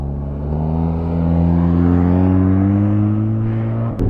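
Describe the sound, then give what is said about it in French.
Press convoy cars roar past a Ténéré motorbike, a loud, continuous engine drone whose pitch climbs slightly as they accelerate, ending with a brief knock. No one speaks. “Ça y est, ça repart. La presse qui passe.”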